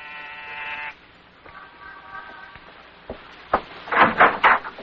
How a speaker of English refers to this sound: On the afternoon of your arrival in New York, you walk down the corridor of an apartment building in the East 70s. Pause and press the buzzer.